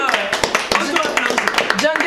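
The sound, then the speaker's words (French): A small group of performers applauds themselves, clapping in quick, uneven bursts, the sharp slaps overlapping while voices shout and cheer underneath. “On s'applaudit nous-mêmes.”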